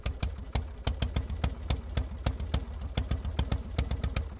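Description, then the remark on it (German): Karl Benz's early engine, with separate pumps for air and gas driving the cylinder, first starting on New Year's Eve 1879, chugs along steadily, its sharp, clattering putts coming several times a second, fairly loud over a low rumble, with no voices. “Am Silvesterabend 1879 springt sein Motor erstmals an.”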